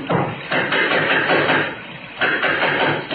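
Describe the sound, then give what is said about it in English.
Loud, steady knocking at a door, a string of heavy raps repeating in a fairly even rhythm for several seconds, with no voices over it. “It's just someone at the door.”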